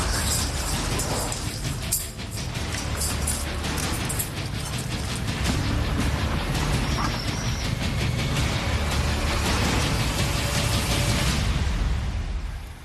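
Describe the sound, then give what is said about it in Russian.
A Utes heavy machine gun fires in long, rapid bursts at an enemy sabotage group trying to outflank the position, laying down dense fire; a loud continuous rattling clatter with dense mechanical reports running almost the whole way through. “Активный контакт сейчас видим, обнаружена диверсионная группа противника, пытается обойти сейчас нашу позицию с фланга, и вот пулеметчик сейчас отработал по противнику, продолжает работать, закрывает плотным огнем из пулемета «Утес».”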